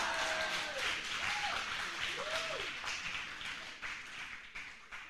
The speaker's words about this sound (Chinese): 好，我们就不能再谢谢我们的姊妹，你领诗领了那么短，给我恩典，现在有一个半小时能够讲完三堂的信息，来再给他一个鼓掌，真是。